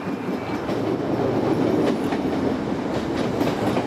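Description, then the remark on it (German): A Chicago subway train rumbles and clatters steadily along the rails, a dense continuous roar with faint rhythmic clicks from the wheels, with no voices. “Doch eine kurze Fahrt mit der U-Bahn bringt einen in eine andere Welt.”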